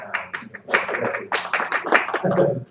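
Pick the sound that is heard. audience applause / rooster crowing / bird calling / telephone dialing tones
audience applause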